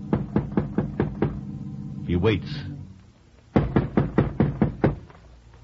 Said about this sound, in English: He dismounts, looks about. The house seems deserted, foreboding. Roy goes to the front door, warily, and knocks.